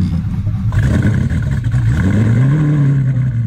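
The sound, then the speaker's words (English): A car engine idles roughly after a cold start in very cold weather, having trouble kicking up, then revs up with a rising hum, loud, with some clattering mechanical noise throughout. “Okay, the engine's kind of sounding weird. I don't know if it's just because it's so cold, but that was a cold start.”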